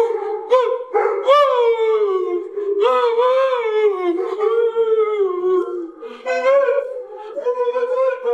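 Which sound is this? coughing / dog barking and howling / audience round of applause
dog barking and howling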